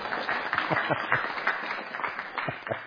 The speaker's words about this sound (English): Okay, thank you. A round of applause for my assistant this morning.